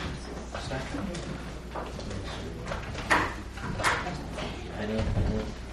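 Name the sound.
door being closed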